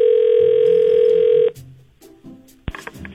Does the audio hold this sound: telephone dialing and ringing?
yes